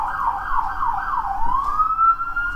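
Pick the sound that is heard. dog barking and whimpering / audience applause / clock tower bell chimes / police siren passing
police siren passing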